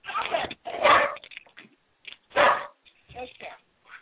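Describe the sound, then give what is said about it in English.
A puppy named Pearl barks in a few loud, sharp bursts spaced irregularly, with softer yips and whimpering sounds between them, all a bit muffled and thin like a phone line. “I have a ferocious dog here.”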